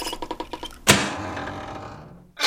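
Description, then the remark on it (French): A big side lever is gripped with both hands and pulled hard: a quick run of about seven evenly spaced ratcheting clicks ends in a heavy mechanical clunk, then a long, fading whirring rumble as a mirror tips and turns around to reveal a second mirror about twice as thick, then another knock at the very end. “Il coince sa brosse à dents entre ses mâchoires, agrippe des deux mains un gros levier sur le côté, le tire fort vers lui et...”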